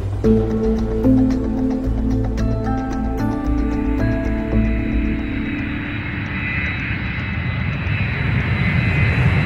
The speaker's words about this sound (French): Voilà, le tarmac de l'aéroport juste là devant nous, alors qu'un avion de United décolle, avion pour les États-Unis, devant un EasyJet d'ailleurs